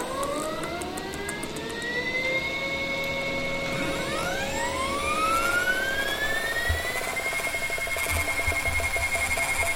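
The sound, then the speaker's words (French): An electronic alarm clock rings continuously, its shrill tones gliding upward in layered sweeps over a steady background hum, holding a fairly loud, even level throughout with no talking. “Réveil aura suffi.”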